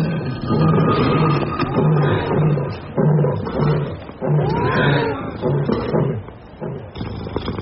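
Several lions roar loudly, a continuous run of deep, rhythmic grunting roars and growls that overlap for several seconds with no pause.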